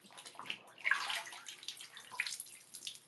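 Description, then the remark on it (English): Water is poured and splashed in a bathtub by a person bathing, with irregular sloshing bursts and a louder surge near the middle, no voices present. “And see, now I can really pour water, like, everywhere, right?”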